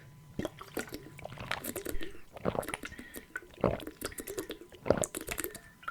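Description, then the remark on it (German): Wet swallowing and sloshing sounds of someone taking a big drink of water, with small liquid clicks and gulps in quick succession. “Ich muss erstmal einen großen Schluck Wasser trinken, fällt mir gerade so auf.”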